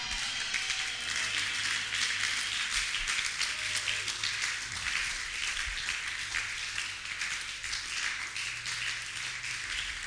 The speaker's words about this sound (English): Oh, I like the way you are clapping, acknowledging God, boosting your faith, and opening a door of supernatural visitation into your life, into your life.